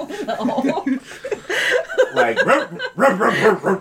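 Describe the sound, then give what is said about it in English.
A person imitates a dog named Zizu barking, voicing a string of loud, yappy bursts in an uneven rhythm that sounds partly laugh-like, with no other sounds around it. “Zizu starts barking.”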